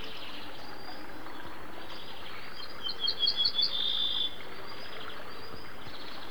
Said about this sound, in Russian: Песня садовой овсянки похожа на песню обыкновенной, только чуть грубей и короче.